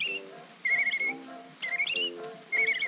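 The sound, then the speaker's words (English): A girl whistling like a bird, high and bird-like in three short warbling bursts with quick trills, clear, over a soft steady instrumental backing; no one speaks. “But I told him I could claim attention whistling like a bird.”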